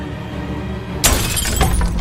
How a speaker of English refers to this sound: the chandelier crashed down onto John, sending him crashing to the floor